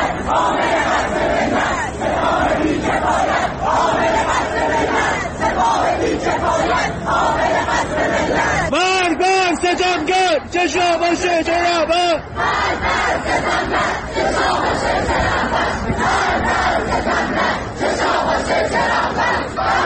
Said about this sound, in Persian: صدای تجمع کنندگان در مقابل دانشگاه شهید بهشتی در تهران رو شنیدید